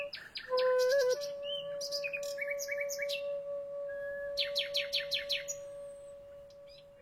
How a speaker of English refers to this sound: A wild and remarkable performance between musicians and songbirds. Nightingales, presented by Verity Sharp.